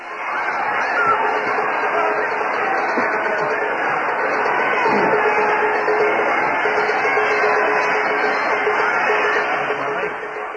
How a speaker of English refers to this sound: We'd like to have you listen to the crowd right now.